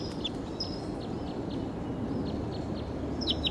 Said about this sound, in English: Wild bird calling loud in the distance, pointed in the direction of the wild bird.